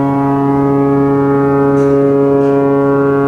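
A deep, powerful ocean liner foghorn blast sounds continuously for several seconds, loud, its rich low tone steady and unbroken with no voices.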